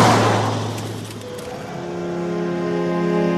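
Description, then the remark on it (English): A Mercedes-Benz car driven by Turkish guest workers from Germany travels along a road near Belgrade, a broad rushing whoosh giving way to a steady, humming engine drone that holds firm, with no voices. “Turkish guest workers are driving night and day from Germany in luxurious Mercedes-Benz cars.”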